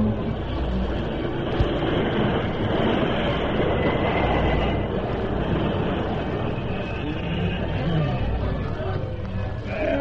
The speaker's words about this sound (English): Jim, stop the train